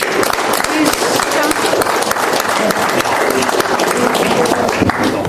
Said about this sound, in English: Please, no applause, please.